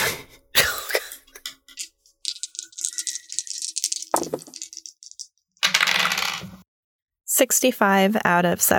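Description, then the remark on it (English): Several dice clatter and rattle across a hard tabletop in quick bursts as everyone rolls a dexterity check, followed by a cough or throat clearing and then someone starting to speak. “Everyone just roll a dex.”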